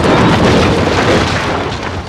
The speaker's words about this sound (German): Plötzlich bewegte sich das schwere Fahrzeug direkt auf den Eingang des Theaters zu. Sekunden später krachte der Bagger durch die Flügeltüren und ließ das Holz zerbersten.